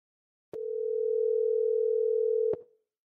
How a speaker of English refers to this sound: As the phone rings, my heart starts to race. I'm nervous. I'm even actually a little relieved when the call goes to voicemail.